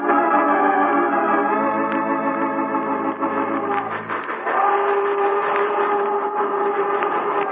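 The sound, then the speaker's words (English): A steam train's whistle blows a long, loud, chord-like blast, then gives way to the churning rumble and hiss of the passing engine while fainter whistle tones linger on. “Here comes the train.”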